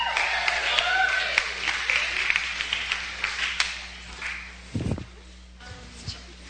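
A church audience applauds a speaker invited forward to present, with steady scattered clapping and a few cheers for several seconds, then the applause fades out, followed by a brief low thump and some faint shuffling.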